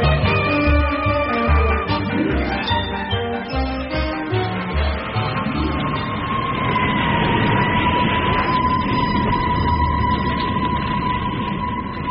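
Wailing sirens rise and hold in long, steady tones over a deep engine rumble, loud and continuous throughout, as emergency vehicles race through the night to a warehouse fire on the Lower East Side, New York, in 1934.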